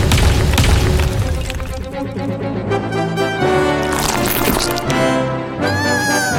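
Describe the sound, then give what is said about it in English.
A loud cannon boom bursts out at the start as a cannon fires a meatball, a heavy blast that rumbles for a moment before giving way to busy, tonal sounds and music-like noise. “fire that meatball cannon.”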